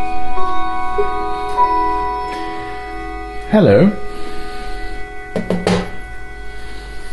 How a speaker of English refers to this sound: A kind of tabletop model, which has Westminster chimes on it. And it was kind enough to introduce itself to the readers, or listeners rather.